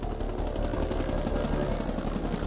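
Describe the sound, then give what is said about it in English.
Helicopter rotors thud in a rapid, steady rhythm over a dense, roaring engine drone, loud and continuous, with no voices. Two helicopters race to a trapped soldier's position near the demilitarized zone during the Vietnam War. “Two helicopters raced to Hamilton's position.”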